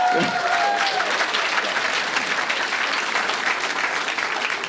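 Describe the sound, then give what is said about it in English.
Sustained applause from Wisconsin lawmakers at talk of legalizing marijuana, a dense steady patter of clapping hands that holds at an even level throughout, with a brief faint tone near the start. “they're so committed to a round of applause at that”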